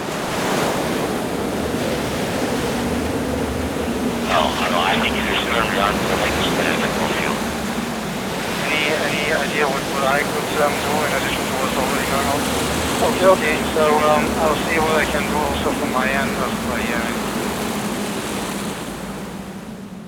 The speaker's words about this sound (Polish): A wiatr, tak, wiatr. I co zrobić z tym wiatrem? Jakiś sztorm możemy zrobić. No możemy.